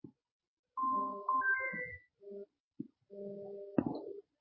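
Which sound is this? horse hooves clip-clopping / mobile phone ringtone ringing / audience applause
mobile phone ringtone ringing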